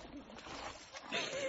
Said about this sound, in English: Are you okay? I'm sorry, but have you ever jumped in the water with a horse before?